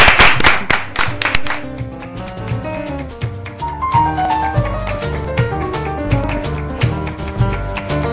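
A short burst of audience applause opens, then quickly gives way to music with a steady low beat and melodic lines that carries on to the end.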